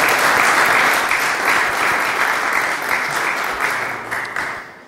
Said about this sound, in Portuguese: Portanto, mas de resto, de facto, felicito porque é uma boa proposta e não havendo dúvidas, uma salva de palmas